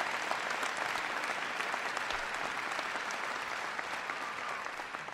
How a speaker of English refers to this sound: behind me, I've got the outstanding administrator for our Small Business Administration, who hails from these parts, Karen Mills. Give Karen a big round of applause.